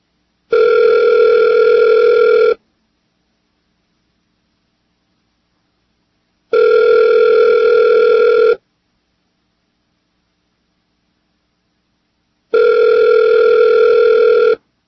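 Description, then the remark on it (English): A telephone line on the Guy James Show rings out: three steady electronic ring tones, each about two seconds long, separated by roughly four seconds of silence. The tones are clear and loud, with no voices. “Got our phone just absolutely working backwards here.”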